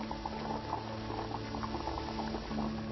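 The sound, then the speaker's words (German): A coffee machine hisses and bubbles steadily, with a constant low hum and rapid, irregular gurgling pops throughout, moderately loud, with no voices. “Was, du fauchst? Bestie. Willst du mir Angst machen? Du bist doch eine gute Kaffeemaschine, nicht wahr?”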